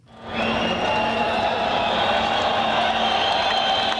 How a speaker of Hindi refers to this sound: Budapest के केलेती railway station में प्रवासियों और शरणार्थियों का यह हुजूम ट्रेन के पहुंचने पर खुशी से चिल्लाने लगा। प्रवासी स्टेशन के बाहर दो दिनों से डटे थे। जैसे ही स्टेशन के दरवाजे खुले, प्रवासियों की भीड़ स्टेशन में दाखिल हो गई।